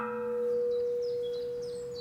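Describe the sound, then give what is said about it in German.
A single cracked bell from Spain, dated 1824, 80 cm in diameter and weighing 300 kg, rings out after being struck in a hearing test, its steady tone lingering as a dull, slightly buzzing hum that fades slowly, with no voices present. “Und diese Glocke haben wir bekommen für Untersuchungen, weil diese Glocke einen Riss hat.”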